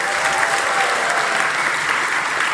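A crowd applauds steadily, with dense, even clapping and no breaks across the full two and a half seconds. The sound is fairly loud and no one speaks over it.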